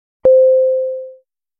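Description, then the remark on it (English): A single chime separating vocabulary words in a language lesson is struck with a bright attack, then a clear mid-pitched tone rings out steadily and fades over about a second, with no talking. “Each word is separated by the chime sound.”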